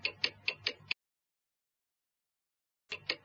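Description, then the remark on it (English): A clock, upside down and reading 4:30, ticks quickly and evenly, five crisp clicks in a row, then two seconds of silence before the ticking starts up again. The sound is clear, with no voices. “Look at the clock, Bobby. It's upside down.”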